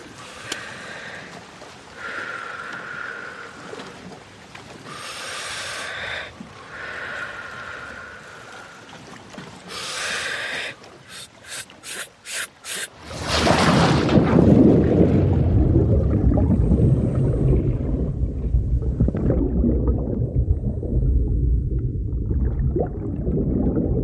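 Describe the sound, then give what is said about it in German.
Hollow, rasping breaths through a mask, then a rapid burst of quick gasps before a loud plunge into water by a breath-hold diver without air tanks, far out by a wreck, followed by a muffled, rumbling underwater hush with faint bubbling. “Unter Wasser lassen wir die Helligkeit des Tages hinter uns. Wir tauchen ein in die Dunkelheit, werden zu Fischen.”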